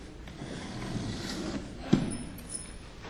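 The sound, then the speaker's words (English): A chair is shifted with a low, rumbling scrape and faint creaks for a few seconds, punctuated by a single sharp knock near the end. No one speaks. “I'm going to move this chair.”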